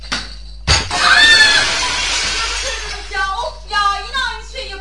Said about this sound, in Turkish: Eyvah, cam kırıldı. Lütfen ortalığı toplayın.